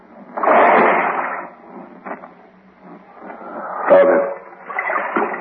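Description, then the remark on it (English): A person drops down into waist-deep water with a heavy splash, followed by a sharp slap and more sloshing and splattering as the water settles, moderately loud. “You drop down there first. I don't know how deep the water is.”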